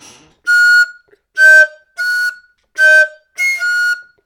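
A high G played on a wind-like instrument, repeated as five or six short sustained notes with brief gaps between them, clear and fairly loud with a slightly breathy tone and no talking.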